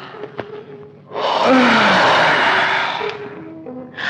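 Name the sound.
yawning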